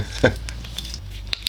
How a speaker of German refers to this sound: Ah, habt ihr dieses wunderbare Plöpp des Korkens gehört?